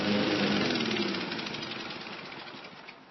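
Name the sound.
lawnmower engine running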